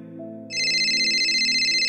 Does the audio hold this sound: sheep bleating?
no